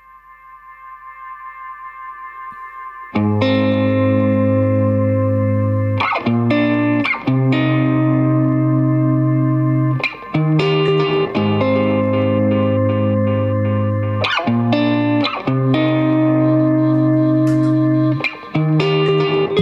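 A song plays as a music track: after a soft, faint few seconds it bursts into loud, full effects-laden guitar chords over a heavy low end, with brief rhythmic stops every few seconds.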